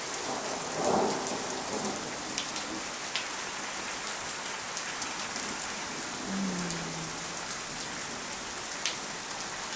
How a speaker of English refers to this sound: Yes, I'm awake. I don't wish to be, but I was woken up by thunder, which frankly I think is a lovely way to wake up.